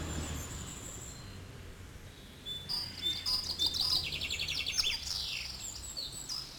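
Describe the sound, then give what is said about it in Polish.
Several birds sing and chirp in quick, bright trills and tweets over a low steady outdoor rumble; the song grows busier partway through. “Jeśli chcemy, by cieszyły nas swoim śpiewem, dokarmiajmy je.”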